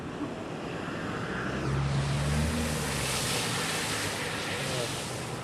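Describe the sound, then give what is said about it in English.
A car surges fast, not slowing down, through shallow salt water on a beach, spraying water up all over itself with a loud, continuous splashing hiss as its engine hum swells and passes, with wind buffeting throughout. “Right, they were spraying water up all over their car.”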